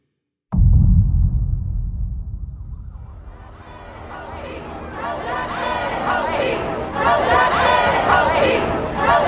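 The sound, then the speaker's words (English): A dense protest crowd in Santa Monica, California chatters continuously, many overlapping voices building into a loud wash of talk after a low rumbling start. “For the first time ever, I am seeing a sea of people at these protests.”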